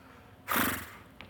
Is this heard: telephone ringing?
no